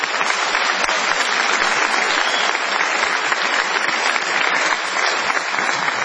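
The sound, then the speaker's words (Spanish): Steady, dense applause from an audience at the Teatro Auditorium in Mar del Plata fills the whole stretch, loud, with many hands clapping at once and no pause or talking. “Bueno, suficientemente aplaudidos, vamos a dar algunas noticias.”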